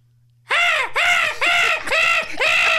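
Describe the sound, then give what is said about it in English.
A person imitates a seagull call with five loud, harsh, nasal cries in quick succession, each one arching up and then sliding back down in pitch. “And of course, we're all going to go around the room now and do our best seagull impression, right?”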